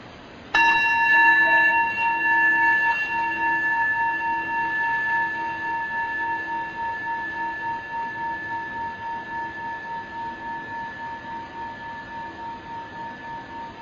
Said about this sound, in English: Listening to the sound of the bell, letting its vibrations send loving kindness to all beings, particularly those struggling with addiction or in families where there's active addiction.